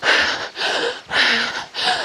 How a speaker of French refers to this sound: Donc vous devez par exemple entendre à peu près l'essoufflement. C'est, vous devez respirer à peu près comme ça, faire.